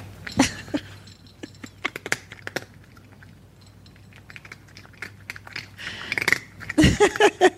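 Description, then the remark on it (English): A cat crunches dry kibble in quick, irregular bursts of sharp crackling clicks, with short pauses between bites and a louder flurry of crunching near the end. “So now you got a cat with dry food eating the kibble.”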